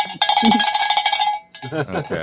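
A bell rings rapidly with a bright, metallic clang, repeated strikes blurring into a loud ringing for about a second, then stops as a person starts talking.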